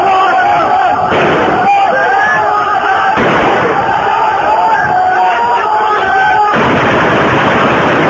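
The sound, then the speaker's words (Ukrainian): Loud, dense crowd shouting and chanting religious slogans fills the scene in Aleppo, Syria, voices overlapping continuously, while sharp bursts of active gunfire crack through at intervals, harsh amid the constant roar. “В Алеппо чути активну стрілянину та вигуки релігійних гасел.”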